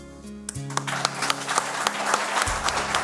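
A crowd breaks into steady applause, dense overlapping claps filling the room for a few seconds, while a few low sustained tones linger underneath from the ending music.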